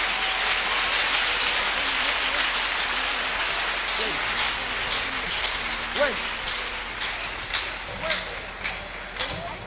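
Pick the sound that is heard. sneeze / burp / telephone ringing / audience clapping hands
audience clapping hands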